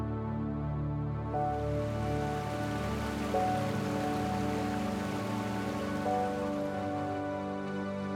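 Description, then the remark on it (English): Rain falls steadily in the jungle in a dense, even hiss of countless drops, with soft sustained tones humming underneath; no one speaks. “Did you guess water?”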